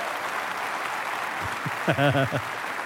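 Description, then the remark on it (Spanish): The men of an audience applaud the women present in a steady, dense wash of clapping that lasts throughout, with a brief voiced shout or cheer rising over it near the end. “Pero, varones, denle un aplauso a las hermanas que están con nosotros.”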